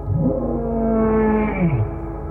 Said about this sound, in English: Once more, the monster howled from beyond the door.